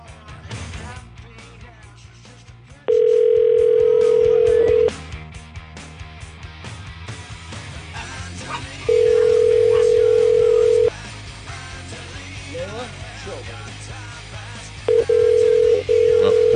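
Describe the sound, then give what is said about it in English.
A telephone ringback tone sounds three times, each steady ring lasting about two seconds with roughly four seconds of pause between them, loud and clear over faint background noise. “At least this one rings.”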